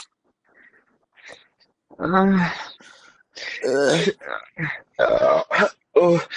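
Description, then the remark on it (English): A loud, throaty burp blending into a strained grunt, followed by several more short guttural vocal bursts; it sounds like a voice performing the burp and grunt. “You ever burp and give birth?”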